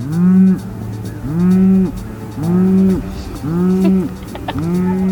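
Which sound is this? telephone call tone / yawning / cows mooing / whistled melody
cows mooing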